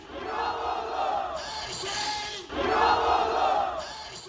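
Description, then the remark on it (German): A large crowd in Istanbul, Turkey cheers and roars loudly over İmamoğlu's win in the repeated election, the massed voices swelling in two long waves with a brief dip between them, some shouts rising above the din. “Diesmal akzeptierte Erdogan und der Jubel war groß.”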